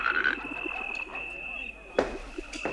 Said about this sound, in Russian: «Ква-ква, Иван-царевич!» говорит лягушка-квакушка.